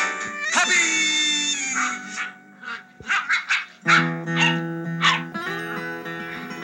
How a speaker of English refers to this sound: The scene fades up to a family of Old English sheepdog puppies playing and barking in a wood-paneled suburban den somewhere, with mellow guitar music in the background.